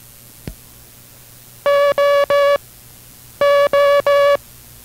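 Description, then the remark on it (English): Morse code for the letter O, sent twice: two groups of three long, steady, mid-pitched buzzy tones with a short pause between groups, preceded by a single faint click. Part of the word "oboe" sent in an International Morse Code instruction broadcast. “We will continue instruction in the rudiments of the International Morse Code following station identification.”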